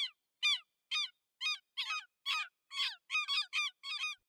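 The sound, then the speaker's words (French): Gulls flying in the sky over the sea on a hot, sunny day call again and again in a quick series of about ten harsh, squawking cries, clear, with short gaps between them and no other sounds. “Des goélands et des mouettes qui volent dans le ciel.”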